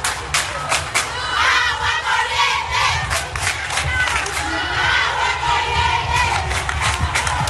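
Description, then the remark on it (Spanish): Students of the University of Camagüey shout and chant together in loud, continuous protest against blackouts and the lack of water at the university, around 7 in the evening, voices overlapping in a dense roar with rhythmic bursts and occasional claps. “Ayer martes, sobre las 7 de la noche, estudiantes de la Universidad de Camagüey protestaron por los apagones y la falta de agua en el centro universitario.”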